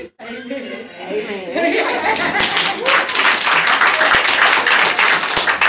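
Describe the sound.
A voice speaks briefly, then an audience breaks into loud, sustained hand claps of praise for the words just given, a dense steady patter of many hands with faint chatter and chuckles mixed in.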